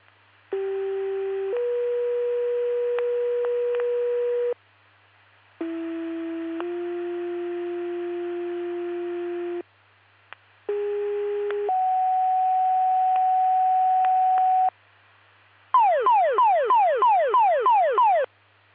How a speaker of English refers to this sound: This is your full cell pager test testing for ProFire and EMS, LaSalle, Oglesby, and Spring Valley Fire Department. Please disregard the tones and reset your pagers.